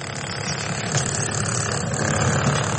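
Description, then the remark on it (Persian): A steady, loud engine rumble from heavy machinery clearing earthquake rubble at night in the quake-hit areas of Turkey and Syria, a continuous idling drone with a broad gritty hiss and no clear breaks or voices. “گاه صدای امبولانس بلند می شود که جسد یا زخمی را انتقال می دهد، گاه هم صدای ماشین ها برای برداشتن آوارها فضا را فرا می گیرد.”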